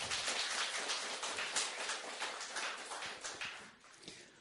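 A church audience applauds steadily to thank a sister for her testimony: many overlapping claps form a dense, crackling wash that holds an even loudness for several seconds before easing slightly at the end, with no voices.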